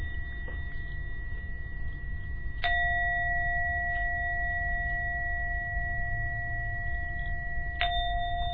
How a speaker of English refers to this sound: So we're coming towards the end of meditation. Now ring the gong 3 times, you can open your eyes when you're ready.